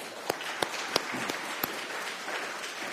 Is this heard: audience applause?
yes